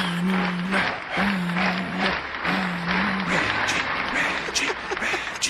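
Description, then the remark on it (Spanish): A crowd applauds steadily, a dense crackle of clapping that holds at an even, fairly loud level throughout, with a few sustained vocal cheers rising over it in the first few seconds. “Mira, este es el aplauso, ¿viste?”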